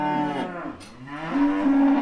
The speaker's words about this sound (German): Dafür gibt es hier aber umso mehr Kühe. Der Bürgermeister allein hat zum Beispiel über 100 Rindviecher im Stall. Und die machen ganz schön Krach.